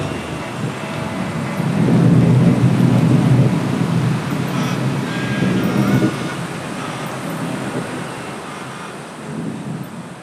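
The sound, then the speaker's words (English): Steady rain hisses across the whole stretch in Port Moresby, Papua New Guinea, as the wind picks up and thick cloud hides the hills, while deep thunder rumbles build and swell, loudest in the middle, then ease off. A broad, enveloping storm with some wind, no voices. “The wind picks up, and the towers are suddenly hidden behind thick cloud. It starts to rain.”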